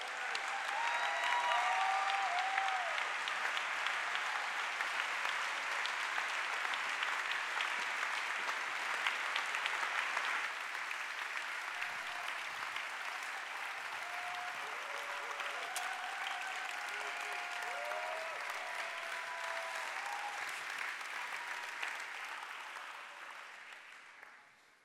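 Sustained audience applause at the end of a Bible week festival, welcoming a speaker as he comes to speak: a dense steady wash of clapping hands that holds at an even loudness for about twenty seconds, with faint voices and whoops mixed in, before fading away at the end.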